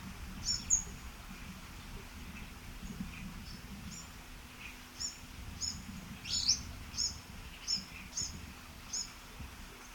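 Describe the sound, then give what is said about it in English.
A warbler gives a series of sharp, high chip calls, roughly nine short notes spaced about half a second apart, in an interspecific interaction with an orange-crowned warbler, over a steady low rumble of background noise. “Actually, it was an interspecific interaction with an orange-crowned warbler.”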